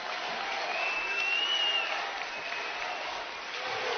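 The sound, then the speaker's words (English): A crowd of fans dressed in red applauds their team's effort late in a game between Matawan and Point Beach: a dense wash of clapping that holds at an even level throughout, with a faint whistle rising briefly above it early on. “And the people here in red starting to applaud their team's effort.”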